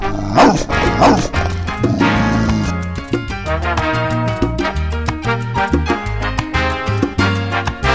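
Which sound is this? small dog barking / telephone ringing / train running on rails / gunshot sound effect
small dog barking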